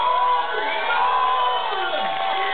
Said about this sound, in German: Und ich bitte zu Ehren unseres Dieter um einen großen Applaus!